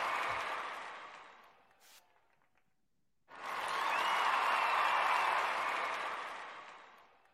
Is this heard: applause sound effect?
yes